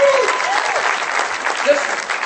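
A crowd applauds steadily for a young man in the audience, a dense wash of clapping that holds at an even level throughout, with a couple of brief whoops and cheers rising above it near the start and again later.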